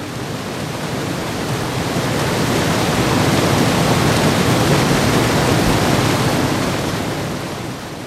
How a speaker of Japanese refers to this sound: 見よ、前方の川を。昨日の豪雨で山の水源地は氾濫し、濁流とうとうと下流に集まり、猛声一挙に橋を破壊し、堂々と響きを上げる激流が木っ端みじんに橋桁を跳ね飛ばしていた。